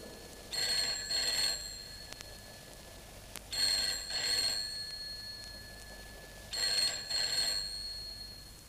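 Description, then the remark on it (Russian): A telephone rings three times with steady pauses between, each ring a pair of bright trilling bursts, clear, around midnight in a family home, with no voices. “Около полуночи зазвонил телефон.”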